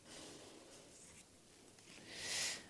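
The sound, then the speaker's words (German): Quiet rustling and crinkling of tightly folded paper being handled, with a brighter, louder crackle swelling near the end; no voices. “Vielleicht so zusammengefaltet wie dieses Papier hier.”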